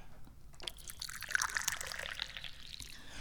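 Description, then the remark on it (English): Da Hong Pao tea is poured into a cup in a steady, bubbling stream, its pitch rising slightly as the cup fills, fairly quiet with no one talking. “Hello, I'm the chairman of the Dubious Goals Committee, and that bestows upon me various powers and responsibilities, which include, but are not limited to, pouring the tea.”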